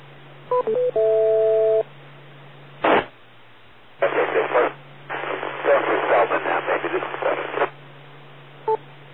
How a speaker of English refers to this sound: Wait for the four beeps.